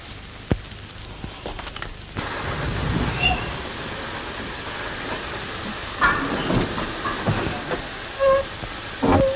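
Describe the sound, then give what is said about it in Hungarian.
A small locomotive shunts cattle wagons, with a steady hiss and rumble that swells after a couple of seconds, punctuated by scattered metallic clanks and brief squeals. “Itt tologatja marha vagonokat ezzel a kávédarálóval.”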